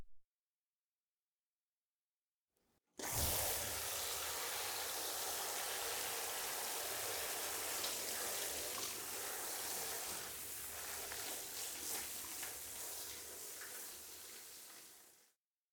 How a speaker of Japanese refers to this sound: シャワー浴びました。